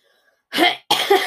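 human body sound, nose blowing

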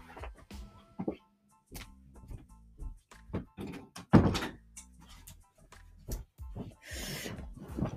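household object, door being shut

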